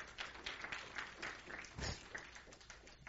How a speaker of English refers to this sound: Give the Lord a hand clap if you believe that.